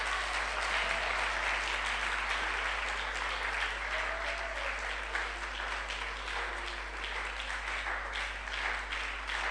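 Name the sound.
audience clapping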